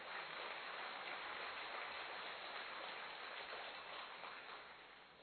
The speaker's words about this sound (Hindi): हाँ, जोर से ताली बजाओ।